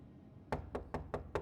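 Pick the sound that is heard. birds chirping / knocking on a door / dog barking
knocking on a door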